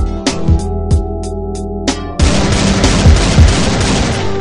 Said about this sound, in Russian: Ты слышал выстрелы, их было 6.